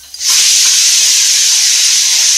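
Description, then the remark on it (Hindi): A pressure cooker cooking khichdi of rice, lentils and vegetables whistles, bursting into a loud, steady hiss of escaping steam after a brief quiet moment, holding at full force without pause. No one speaks. “और फिर बंद कर दिया कुकर, और कुछ देर में बचेगी सीटी।”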